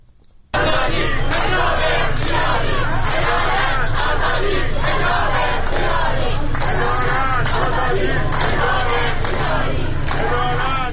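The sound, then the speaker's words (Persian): A loud protest crowd chants slogans in unison against government officials and the police and demands an end to compulsory hijab, many voices shouting in a steady rhythmic cadence that rises and falls, with dense crowd noise filling the background throughout. “بر اساس تصاویر و ویدیوهایی که منتشر شده، تظاهر کنندگان علاوه بر شعار علیه مقام‌های حکومتی و نیروی انتظامی، خواستار رفع حجاب اجباری شدند.”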